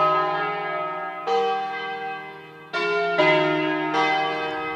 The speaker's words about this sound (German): Die Kirchenglocken im Tessin läuten noch.